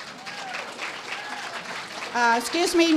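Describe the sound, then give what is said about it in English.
An audience claps in a steady, dense patter for about two seconds, then a voice starts talking as the applause fades underneath. “No clapping until the end of the evening.”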